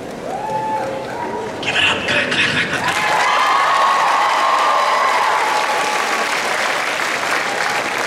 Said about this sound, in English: Nice job, ladies. Give them a hand. Come on.